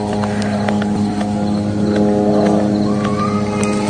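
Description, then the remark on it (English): A military drone over Gaza gives off a constant, loud mechanical buzz, a low droning hum layered with steady harmonic tones that holds unchanged throughout, with a few faint clicks scattered over it. “over in Gaza with the eerie sound of the drone trying to drown her out as she's thanking the organisers of the demonstration.”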